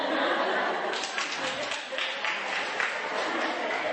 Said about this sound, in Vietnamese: Đại chúng vỗ tay